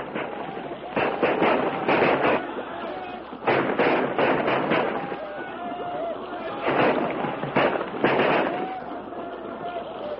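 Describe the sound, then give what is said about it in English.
Rifle gunfire from men firing at attackers with spears rings out in loud bursts, several shots clustered in irregular volleys with brief pauses between, over a steady rushing background noise. “Use your rifles, men.”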